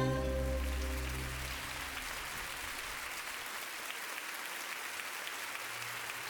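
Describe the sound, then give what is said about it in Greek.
An audience claps steadily in a dense, continuous wash of applause, with the final held notes of a song fading out underneath during the first second or so. “Δικαιολογημένα τα χειροκροτήματα εδώ που τα λέμε.”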